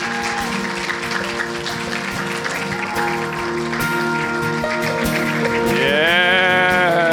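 A church audience claps steadily throughout to encourage a woman as she comes on, a dense patter of applause layered over sustained musical tones, with a rising whoop breaking through near the end.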